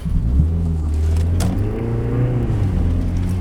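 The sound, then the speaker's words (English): A car with a dog aboard, heading back to Madison on a road trip, rumbles low and steady, its engine pitch rising and shifting as it pulls away and accelerates down the road, with a brief sharp click partway through. “But we're gonna get the car in gear. Get off down the road.”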